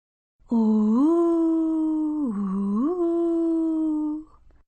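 A voice imitates wind whispering at the door during a reading of the story Gilberto y el viento, one long, steady moaning tone lasting about four seconds. The pitch dips briefly in the middle and then rises back before it fades out.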